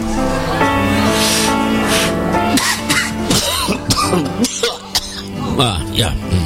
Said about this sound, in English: A chorus of coughing.